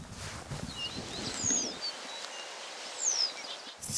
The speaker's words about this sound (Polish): Takie lekko chropawe. To pliszka żółta. Tak, bo są też pola uprawne. Pliszka żółta, dobrze się tu czuje. Ubogi dość śpiew